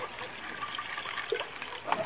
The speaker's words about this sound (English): Cognac. Here's a cognac. I'll pour a little into your dish.